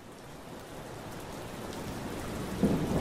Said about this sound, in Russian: Дождь лил и лил, а потом снова лил. Облака толпились вокруг континента, точно чартерные рейсы, в которых разом позаканчивалось топливо. Они проскальзывали без очереди и выплескивали всю содержащуюся внутри воду на иссушенную землю.